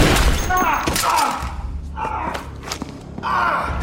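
Several sharp gunshots crack out at irregular intervals, loud, mixed with strained vocal sounds and gasps and some heavy thumping movement.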